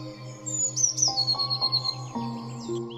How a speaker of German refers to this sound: Die Blaumeise zwitschert auf, als würde sie lachen.